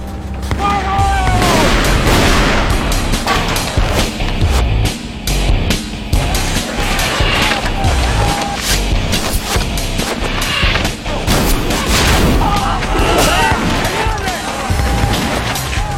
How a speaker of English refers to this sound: The noise of the arquebus is the equivalent of a jet engine at takeoff.